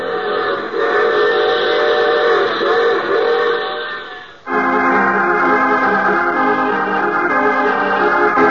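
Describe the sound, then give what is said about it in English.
A train's steam whistle blows loud in one long, continuous chord, its pitch shifting downward midway as the train passes by, in the radio drama The Mysterious Traveler. No one speaks. “I take this same train every week at the same time.”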